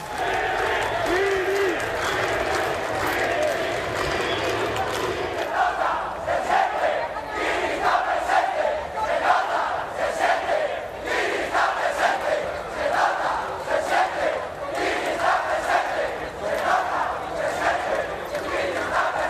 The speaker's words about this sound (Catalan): però allí s'hi han aplegat milers de persones. Banderes del Barça, d'Astúries, senyeres, sembla la celebració d'un títol blaugrana a la plaça Sant Jaume, però canviant el balcó de la Generalitat per la prefectura de policia de Via Laietana.